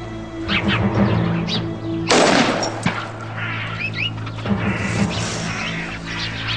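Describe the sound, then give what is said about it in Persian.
A sudden loud burst of gunfire cuts in midway, followed by a sharp single crack, set against a steady low hum and scattered chirping tones. “اصلا یه سازمانی داری شلیک میکنی؟”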